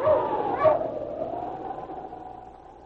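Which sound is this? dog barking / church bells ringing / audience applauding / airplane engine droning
dog barking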